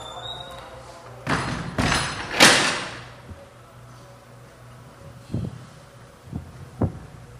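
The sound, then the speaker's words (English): A door is handled and shut: three loud, rattling bangs in quick succession, then a few softer, dull thuds spaced apart, with no talking. “I'm going to close that door.”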